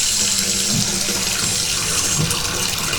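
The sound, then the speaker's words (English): Hot water gushes steadily from a bathtub tap, turned back on with a person's toes, into the tub, a continuous loud rushing hiss with a faint low gurgle underneath, no voices. “I'm going to turn the hot water back on here with my toes.”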